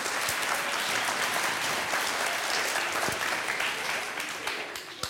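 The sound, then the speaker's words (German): Sustained audience applause thanking the board holders at a show, a dense wash of many hands clapping steadily for about five seconds, fairly loud throughout and tapering slightly at the end, with no talking over it. “Kriegt bestimmt noch einen Applaus.”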